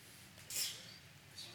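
sneeze

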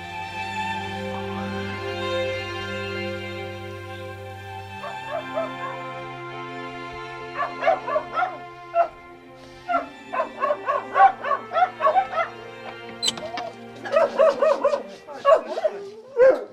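dog barking and whimpering

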